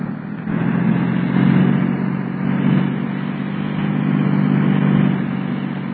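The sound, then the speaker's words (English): A car engine roars steadily, its low rumble swelling louder several times as it revs while the car is turned around and given more power to head for the Hotel Somerton, with no voices over the continuous mechanical drone. “And turn the car around. Give her a shot of that high-power jazz.”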